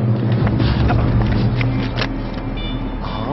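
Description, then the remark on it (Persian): A car engine turns over and settles into a steady, fairly loud low rumble, with a few faint clicks and rattles on top and no voices. “برو ماشین روشن کن.”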